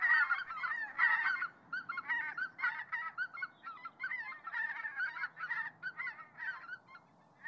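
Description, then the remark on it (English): A large flock of white-fronted geese, which in autumn peck fallen rice grains in rice paddies in Japan, calling continuously, a dense chorus of overlapping high, yelping honks that sounds almost like laughter, steady and moderately loud throughout. “Each autumn, these geese peck fallen rice grains from the rice paddies in Japan, and they can be quite deafening with their calls.”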